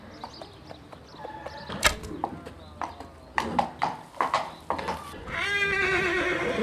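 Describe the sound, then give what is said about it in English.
Horse hooves clop in uneven beats, with sharp knocks standing out, before a horse lets out a long, wavering neigh near the end, with some voices faintly in the background; the Emperor's horse veering left as he shoots arrows from horseback at an archery range in Hangzhou in 1699. “The horse veered to the left, and now the Emperor is shooting with his left hand!”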